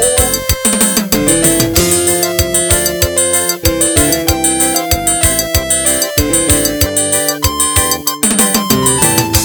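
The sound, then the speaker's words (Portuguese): Upbeat forró music led by a bright electronic keyboard, with a quick, steady beat and punchy rhythmic hits, loud, with no voices over the instrumental. “dos teclados, o voice do forró. E essa é o novo rei do teclado, hein?”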